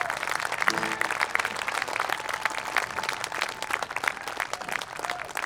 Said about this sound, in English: Before you think about stopping the clap,